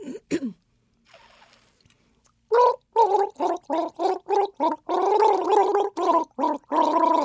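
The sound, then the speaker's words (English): The tune Deck the Halls is gargled on a water bottle: a quick run of short, bubbly pitched notes in a steady rhythm, then longer warbling held tones. Fairly loud, with no talking over it. “Like, I'll play the water bottle, so you have to name that tune.”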